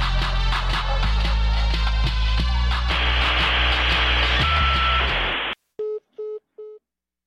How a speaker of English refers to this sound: Beep, beep, beep.